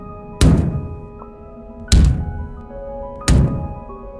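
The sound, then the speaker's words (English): Three heavy, booming knocks from somewhere in a house land about a second and a half apart, each a deep thud that rings out briefly before fading, over a faint steady hum with no voices. “Three loud knocks came from somewhere in the house.”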